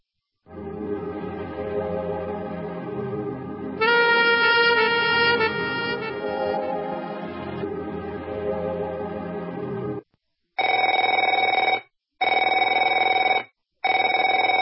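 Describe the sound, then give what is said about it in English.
A telephone rings loudly with a harsh, continuous electronic trill for several seconds, then sounds three more short bursts separated by brief pauses. No one speaks. “Afraid to answer it?”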